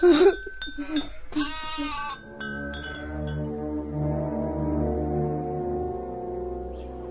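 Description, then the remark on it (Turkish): A few quavering sheep bleats sound clear at the start, then give way to a steady, sustained droning tone that lingers to the end. “Hadi, hadi şimdi doğru koyunların peşine.”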